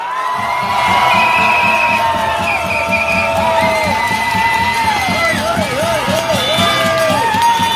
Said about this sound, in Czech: A teď pozor, to poslední jméno. Očekávám, že bude velmi bouřlivý potlesk.